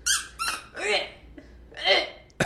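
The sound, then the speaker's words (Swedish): A dog's squeaky chew toy squeaks four times in uneven bursts, each a bright, wheezy, rubbery squeal with wavering pitch, followed by a short sharp squeak at the end. “Och det är en sån här squeaky toy som en hund tuggar på.”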